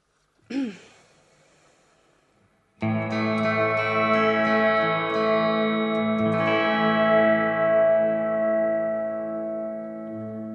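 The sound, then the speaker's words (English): A short pitch-bending guitar note, then a loud strummed chord played on a cavernous reverb setting that swells into a huge reverb; the strings are muted yet the dense wash keeps ringing on and slowly fading for several seconds. “Listen to that reverb. I've already killed the strings.”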